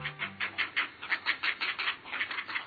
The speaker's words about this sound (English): Hear those chicks calling? They're nestlings at a great blue heron colony, and about this time of year, they begin to test the limits of their nests.